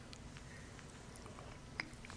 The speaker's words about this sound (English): See that? No ice. You just hear me gulping.